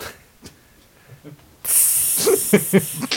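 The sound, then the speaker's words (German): After a near-silent moment, a sudden loud sizzle bursts in, a water drop hissing on hot stone, with a bright steamy hiss and small crackles lasting to the end. “Hört ihr das? Das ist der Tropfen auf dem heißen Stein.”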